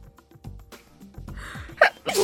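A loud sneeze: a few quick intake breaths build up before a sharp, explosive burst near the end, with no talking around it.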